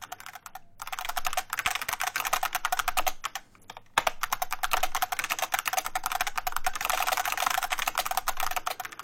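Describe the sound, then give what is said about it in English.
Rapid, dense clacking of bespoke, customised mechanical keyboards being typed on, from a recording released on the Trunk label: a continuous rattling stream of crisp clicks with a couple of brief pauses, no voices. “Called …, recordings of bespoke and customised mechanical keyboards”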